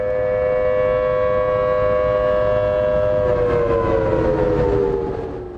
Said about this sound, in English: a listener in Honolulu, sent this from his iPhone. It's the tsunami warning siren, which sounded there.